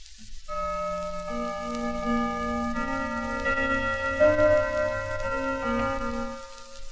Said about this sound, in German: Wir haben diese Gongschläge als Halbstundenschläge verwendet und führen sie denn jetzt von der Uhr auf die Schallplatte übertragen vor. Deutscher Gong, Halbstundenschlag. Potsdamer Gong, Halbstundenschlag.